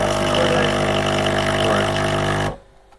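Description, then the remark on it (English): A coffee machine dispensing coffee, a loud, steady mechanical whir and hum with a constant low drone, running for a couple of seconds and then cutting off abruptly into near silence. “And now it's going to pour out the coffee.”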